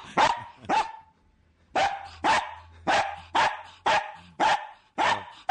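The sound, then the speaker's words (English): A beagle at a man's house barks loudly: two sharp barks, a short pause, then seven more in a steady, insistent rhythm, with a faint low hum underneath and no one talking. “That's …'s beagle.”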